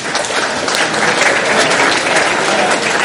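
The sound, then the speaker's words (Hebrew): An audience claps steadily for about three seconds for a campus representative and her team, a dense, even wash of many hands at a fairly loud, constant level with no voices rising above it. “אני חושב קודם כל שמגיע להם אחריות כפיים.”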